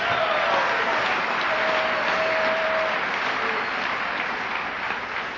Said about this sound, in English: You're clapping for yourselves.